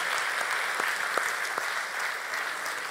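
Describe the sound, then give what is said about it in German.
Steady applause from an audience giving an extra round of applause for the leadership team of the Castle Kids, a dense wash of many hands clapping at an even level for the whole stretch, with a few sharper individual claps standing out. “Da können wir auch noch mal einen extra Applaus auch geben.”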